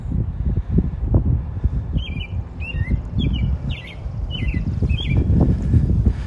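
A bird sings a series of about six short, evenly spaced chirps, fairly light, over a steady low rumbling background with no one talking.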